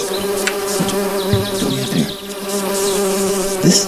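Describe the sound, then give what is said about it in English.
A dense, steady drone of many bees buzzing in a hive just opened after smoke was blown in, a continuous layered hum with individual insects swelling louder now and then as they pass. “Oh my, busy little bees, aren't we?”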